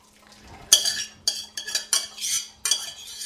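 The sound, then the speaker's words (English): Cooked farro is dumped from a pot into a metal colander so the remaining water drains off: a run of six or so rattling, scraping metallic bursts with brief pauses between them, fairly loud, with no talking. “And we're going to dump this into the colander so that the water that remains drains off of there.”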